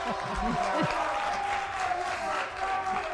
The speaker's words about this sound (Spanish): Oye, ¿podéis aplaudirle por detrás, que creo?